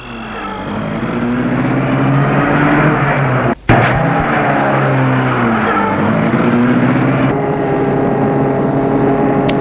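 A car engine roars and stays loud throughout, its pitch rising and falling as the car drives off along a road beside the Seine, with a brief abrupt cut partway through.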